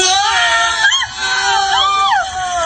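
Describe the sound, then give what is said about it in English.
Several people screaming and yelling at once, loud, in a mattress store TV commercial for a Twin Tower sale shown on CNN, as two men knock over twin towers of mattresses and fall back on them flailing their arms; wavering high-pitched cries rise and fall over a couple of seconds amid crowd-like commotion. “The people yelling.”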